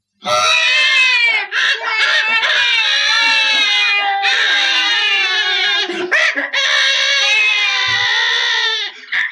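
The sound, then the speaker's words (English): Children screaming and howling loudly in a train carriage, overlapping high-pitched wails that carry on almost without pause, broken only by brief gasps between cries. “So I've managed to find a seat again now, which is quite lucky, when all of a sudden, I suddenly find the carriage is full of screaming, howling children.”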